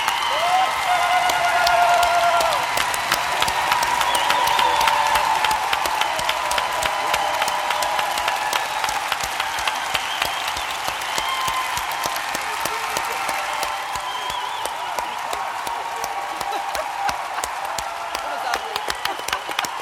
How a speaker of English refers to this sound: With that rousing cheer, I think we're going to end the conversation